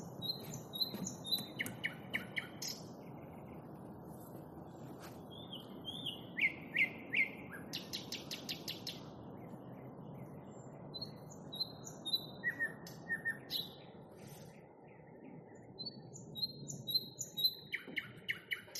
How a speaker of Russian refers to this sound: Хотя соловей он может петь в любой момент.